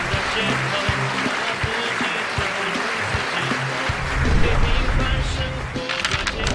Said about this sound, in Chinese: 再次把掌声送给他们